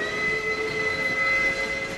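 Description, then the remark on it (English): A train whistle holds one steady, sustained tone over the continuous rumble of a passing train, fairly loud throughout, with no voices. “The call of the lonesome train whistle can be a cruel mistress.”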